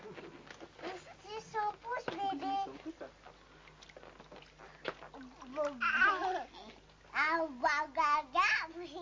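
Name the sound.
baby babbling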